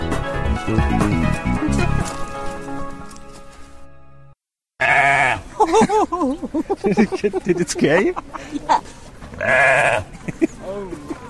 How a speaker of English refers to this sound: And the goat.